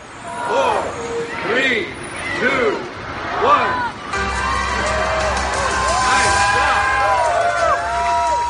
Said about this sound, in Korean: 리본을 자르며 본격적으로 개장을 알리는 발표를 하자 사람들의 환호가 터져나왔습니다. 원 월드 트레이드 센터는 수년에 걸친 공사 끝에 올 초에 완공했지요.